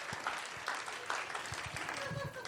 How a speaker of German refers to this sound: Hört auf da zu klatschen! Der fühlt sich bestätigt! Klatsch! Der findet das dann witzig!